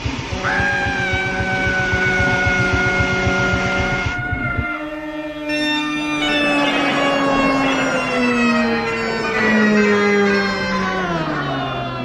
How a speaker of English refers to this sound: Dear listener, the sound that you've just heard was that of a 100-ton steamroller passing slowly over Neddy Seagoon and his nickel-plated bagpipes.